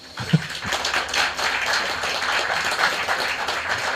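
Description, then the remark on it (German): An audience breaks into steady applause, a dense wash of many hands clapping at once that holds at an even, fairly loud level for the full few seconds, with a brief sharper clap near the start. “Und, können wir einen Applaus haben?”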